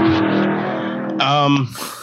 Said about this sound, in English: What was that? A motorcycle drove past my window. Lord. I thought someone had a sound effect.